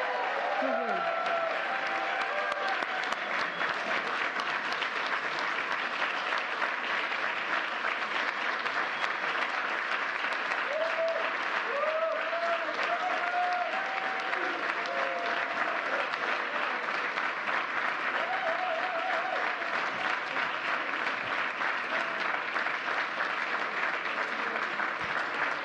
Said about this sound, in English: Let's give one more round of applause for this year's Presidential Freedom Recipient.